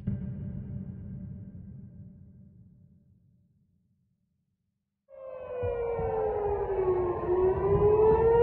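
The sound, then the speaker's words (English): Air raid sirens blare across Israel, in Tel Aviv around 1:45 on a Sunday morning during an attack: after a low rumble fades into silence, a sustained wailing tone slowly sinks in pitch over a deep background rumble. “Sirens were blaring across Israel and lights flashed in the sky, accompanied by giant booms.”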